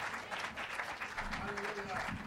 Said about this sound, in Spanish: Un fuerte aplauso a Cristo, einen starken Applaus für Jesus.